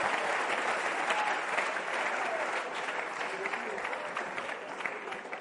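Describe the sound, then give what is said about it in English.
Sustained audience applause for Chadian missionaries, a dense steady wash of many hands clapping at once, holding at an even level for about five seconds before easing slightly at the end. “Put your hands together for this wonderful Chadian missionaries.”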